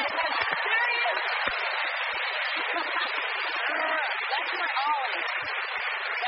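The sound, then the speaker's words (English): A studio audience claps again for a guest who has 5-month-old twins, a steady, dense, even roar for several seconds, with scattered whoops and voices rising through it. “Let's clap again.”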